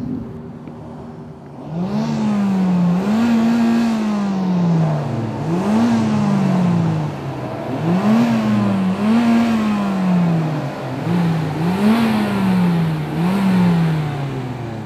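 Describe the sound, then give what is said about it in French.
A car engine revs again and again in repeating surges, the pitch climbing and dropping in a steady rhythm as the car spins in circles with its hazard lights on, as part of an artwork, loud with no talking. “Pas juste avec la couleur, mais aussi avec certains des gestes, dont les spark plugs, les feux de détresse finalement que j'active sur mon auto pendant que je spin en rond.”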